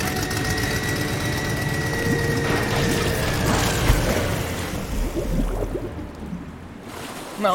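The machinery of Batman's new flying boat deploys with loud ratcheting clicks and whirring gears over a steady high whine and low engine rumble, building for several seconds before settling, with no voices.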